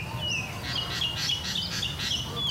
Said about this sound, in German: Heute zwitschern hier friedlich die Vögel.